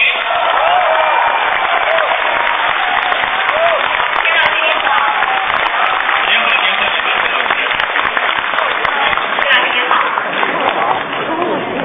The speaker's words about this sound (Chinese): 接下来我们要请出的是评书界的泰斗级的人物。 哦，泰斗级的人物今天都来了。 是啊，让我们掌声有请田连元老师。